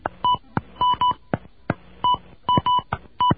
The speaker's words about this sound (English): Please enter the area code and telephone number that you are reporting. If you make a mistake, press the star key. Enter the area code and telephone number now.